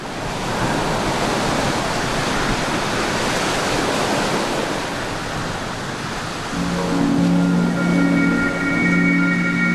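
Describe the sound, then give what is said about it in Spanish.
A steady, full roar of Caribbean Sea waves at Riohacha washing in a continuous hiss; after about six seconds, sustained musical tones rise in over the surf. “Fue aquí, en el Mar Caribe de Riohacha”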